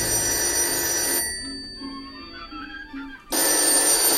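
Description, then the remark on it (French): A telephone bell rings loudly in two bursts with a short quiet gap between them, a harsh, metallic ring with no voices present. “Moi, c'est toujours la même chose avec le téléphone.”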